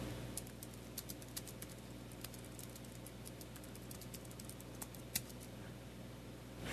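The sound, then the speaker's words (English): Irregular, quick clicks of typing on a computer keyboard, with a steady low hum underneath and no voices. “Colby's now going to type for the remainder of the show”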